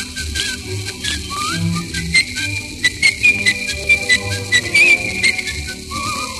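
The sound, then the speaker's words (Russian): A song melody is whistled in clear, bright tones over a bouncy orchestral accompaniment, the whistled notes rising and falling in a lively tune with short rhythmic pulses. “Я эту песенку могу не только вам напеть, но если нужно просветить негромко.”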